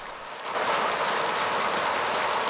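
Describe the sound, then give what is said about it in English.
Heavy rain pours down on a yard at night in a dense, steady hiss that swells in loudness after a brief moment, then holds constant with no voices present. “Nighttime, a figure runs across a rain-strafed yard and up some steps to a door.”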